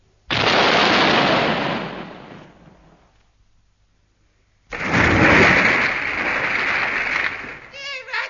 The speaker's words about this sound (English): It's time to fire a salute. Echo! Okay, give me the match and stand back.